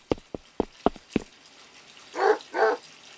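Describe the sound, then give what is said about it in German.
A dog in a bathtub barks twice in quick succession, fairly loud, right after a run of five sharp tapping clicks; no one speaks. “Was macht denn der Hund in der Badewanne mit meiner Taucherbrille?”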